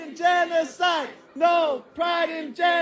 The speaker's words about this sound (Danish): De råber, no pride in genocide, gør de i lang tid.